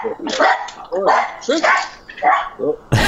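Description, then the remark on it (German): Two dogs bark in a quick, uneven string of sharp, loud barks, about half a dozen over a few seconds, with a sudden burst of noise at the end. “Jetzt haben die beiden Hunde es verpasst, berühmt zu werden, weil sie sind nicht mehr in deinem Gespräch drin.”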